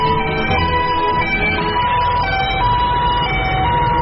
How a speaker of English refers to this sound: Yo, you guys hear that? The sirens. Those are the sirens.